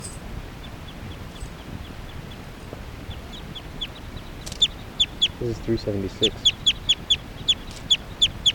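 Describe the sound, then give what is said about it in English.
A chicken, bird number 379, gives a quick run of sharp, high clucks in a steady rhythm while being handled, rising in loudness toward the end, after fainter chirps earlier. A person speaks briefly just before the clucking. “So recording, this is bird 379 being handled.”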